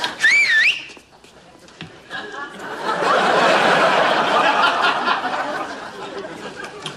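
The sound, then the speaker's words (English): A loud, wavering whistle, given as a signal for a group to come in, rings out for under a second, then a crowd of voices swells into steady, lively chatter that continues to the end. “You know, when I whistle, you all come in.”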